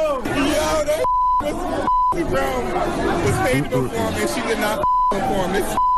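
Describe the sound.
A large crowd in Philadelphia at Black Pride festivities boos and jeers a performer who arrived three hours late and never performed, in a loud, sustained roar of overlapping voices, cut three times by steady mid-pitched censor beeps that briefly replace the noise.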